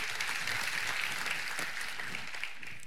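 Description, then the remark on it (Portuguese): A crowd claps for Jesus steadily and densely, a sustained wash of overlapping handclaps at an even loudness throughout, with no voices standing out. “Dá uma salva de palmas para valer aí para Jesus.”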